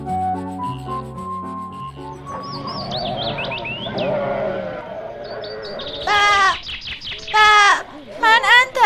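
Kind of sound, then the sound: animal, lamb bleating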